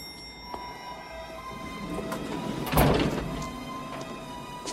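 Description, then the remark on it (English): A lift arrives in an underground car park over a steady mechanical hum with faint whining tones, then its doors slide open with a brief thump and a swelling rumble midway before settling back to the hum. No one speaks. “He hears the lift and looks over his shoulder.”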